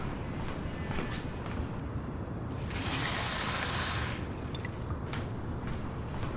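A tap runs with a steady watery hiss into a glass at a mulled-wine stall, swelling into a louder, fuller gush for about a second and a half in the middle before settling back to a softer trickle.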